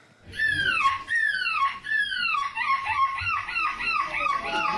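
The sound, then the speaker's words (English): A 9-year-old boy imitating a seagull: a loud, rapid string of high, downward-sliding squawking cries, one tumbling into the next with hardly a pause, over a low background rumble. “This is not a seagull. This is a 9-year-old boy.”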